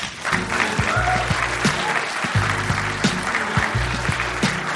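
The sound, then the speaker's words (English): An audience applauds steadily as stand-up comedian Baron Vaughn is welcomed to the stage, a dense wash of clapping that holds at an even level throughout, with a rhythmic musical beat thumping underneath and no talking. “Thank you for clapping, because none of you know who I am.”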